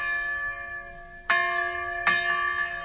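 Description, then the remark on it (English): A dinner bell rings with a sustained, shimmering metallic tone, struck twice more about a second apart so the clear ringing swells again each time. No one speaks. “When you're hungry, no sound is as welcome as the dinner bell.”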